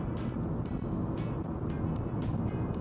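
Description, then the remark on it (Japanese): A steady, continuous low rumble of a car cruising at highway speed outside the passing lane during the Obon holiday season, never stopping and with no turn signal, with constant road and engine hum and faint periodic hiss of wind or passing tires, no speech. “しかしまああれだね、ウインカーの音もまず俺が追い越し車線を使わないから、ウインカーの音も聞こえない、信号ないから止まろうともしないから、ずっと皆さんブーンっていう音しか聞こえないっていう事態ですよね。”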